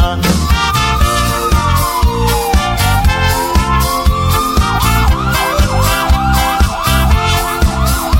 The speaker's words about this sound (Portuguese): O paciente passando mal e a família desesperada, com a sirene tocando, ele vai pedindo estrada.